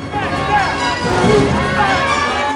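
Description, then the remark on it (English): A loud, dense crowd of protesters outside a TV station, many voices shouting and chanting over one another in a continuous roar that holds steady throughout. “Demonstrators are still protesting.”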